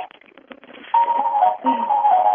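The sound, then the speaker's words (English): After a second of faint clicking, a phone ringtone bursts in with a bright, tinkly melody much like an ice cream truck jingle, loud and continuous with a brief dip midway. “And there's our other phone ringing. That's ringtone. Sounds like an ice cream truck to me.”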